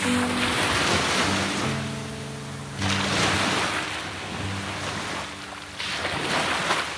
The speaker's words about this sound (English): Enjoy this sound. I'm gonna hold the microphone very close to the wretched waves.